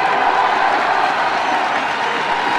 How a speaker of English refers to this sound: And those cheers go on for about 20 seconds, and then we hear this.